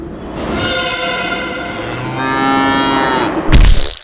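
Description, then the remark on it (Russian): A cow moos loudly, one long drawn-out low followed straight away by a second, before a sudden sharp bang cuts in at the very end as a metro train hits the cow at Barrikadnaya. “Метрополитен сбивает корову на баррикадной.”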